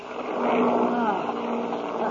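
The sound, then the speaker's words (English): Airplane motors drone in a steady, rumbling roar with a low harmonic hum, wavering and faltering slightly in loudness as if sputtering. “Listen to those motors.”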